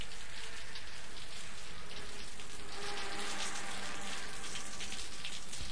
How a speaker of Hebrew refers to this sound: כשהגשם הראשון טפטף על החלון, קראתי לאמנון לצפות איתי בחיזיון, ומטיפות של מים התחיל פתאום השיטפון.